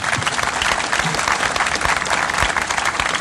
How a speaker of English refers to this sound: Also, I want to thank the Siegel, award-winning Siegel High School. They just do fantastic. Would you applaud for me?